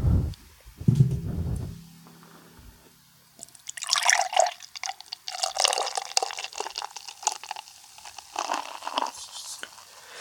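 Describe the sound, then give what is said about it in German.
A new beer brewed with cryo hops pours into a glass with a bright, fizzy splashing that swells and trails off in bursts, preceded by a low thump and brief handling noises. “Ach, dieses schöne Plätschern.”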